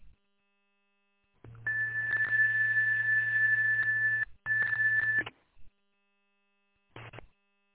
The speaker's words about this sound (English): I think you bumped a button on your radio that caused it to send a tone, and we didn't hear your voice.